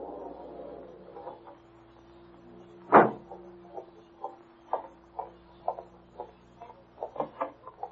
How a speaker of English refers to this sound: Oh, here comes another car. It looks as if he's stopping.